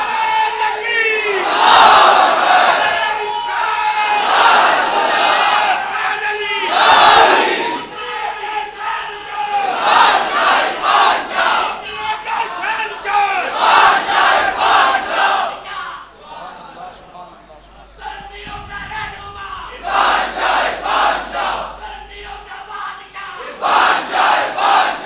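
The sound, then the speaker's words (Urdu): A large crowd shouts religious slogans in repeated rhythmic bursts. Voices roar together in powerful waves with brief pauses between chants, and the call-and-response continues throughout. “یہ تو جس طرح میں بولتا ہوں تو اسی طرح جس آدمی کا گلا کھلا ہو وہ ایسا نعرہ مارے جو باہر تک ہو, سیڑھیوں تک مجمائے.”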